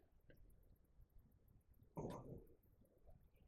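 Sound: stomach gurgling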